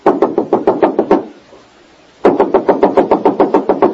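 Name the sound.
knocking on a door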